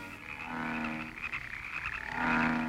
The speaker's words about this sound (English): Oh, these frogs are driving me out of my mind.